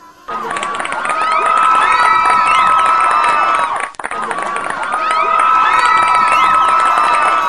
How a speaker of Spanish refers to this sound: A la de tres, démonos un aplauso por nuestro nombramiento. 1, 2, 3.